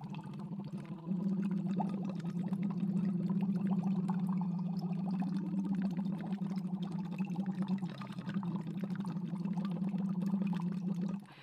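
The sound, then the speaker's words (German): A steady hummed tone blown through water during a voice exercise produces continuous gurgling bubbles for about ten seconds, holding one pitch with a brief wobble midway, then stopping abruptly. No talking. “Jetzt kommen Blubbergeräusche für alle Zuhörer.”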